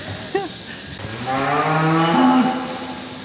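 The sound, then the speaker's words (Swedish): Black-and-white dairy cows moo on Lövåsa farm in Götene, Västergötland, Sweden, a herd of 400, curiously checking out a visitor before going back to eating. One long, low bellowing call rises and holds with a rough harmonic tone, preceded by a brief higher bleat-like call, with a steady background hum and no talking. “visar några av alla sina svartvita mjölkkor som nyfiket kollar in besökaren innan de fortsätter att äta.”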